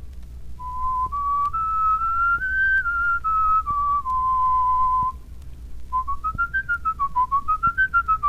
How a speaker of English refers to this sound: You'll notice that this is just a plain whistle.